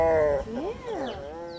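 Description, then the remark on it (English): A grumpy female tiger napping at a big cat refuge growls, a drawn-out, moaning rumble whose pitch rises and falls over a second and a half, with no one speaking. “We leave the grumpy tiger to her nap in search of another artist.”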